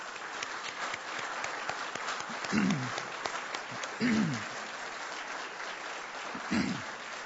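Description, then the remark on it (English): Steady, dense audience applause fills the whole stretch, with a few short voiced shouts or cheers rising above the clapping at intervals, applauding men and women who have served or are serving in uniform as they stand to be recognized. “I'd like to ask all you men and women who have served in uniform, or if you're currently serving in uniform, to stand up so we can recognize and applaud you all, please.”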